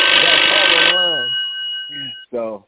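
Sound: telephone bell ringing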